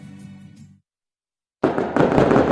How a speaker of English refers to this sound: It's the grand finale of our fireworks show here at Cheney Stadium. Friday night fireworks, a tradition here in Tacoma.